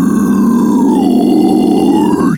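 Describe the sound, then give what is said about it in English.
A single sustained, deep guttural death metal vocal growl, made with an O-shaped mouth and the lower jaw pushed forward, with a rough, rumbling texture, held steadily for about two seconds before cutting off abruptly, loud and alone with no other sounds. “So that's the low death metal growl.”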